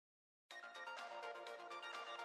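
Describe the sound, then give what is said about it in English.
A cell phone ringtone kicks in abruptly and plays a bright, busy, cheery electronic melody, loud, with rapid shifting notes and no voices over it. “Then a cell phone started to ring. It was a cheery, slightly irritating tune, the unmistakable melody of a device that wanted you to grab it and make it stop playing.”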